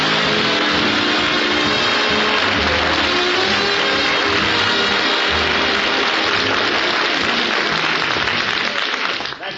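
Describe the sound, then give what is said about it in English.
A large crowd applauds loudly and steadily to welcome Phil Harris, a dense wash of clapping that holds for nearly ten seconds before it begins to taper off at the very end. “you're all smiling and applauding and glad to see me”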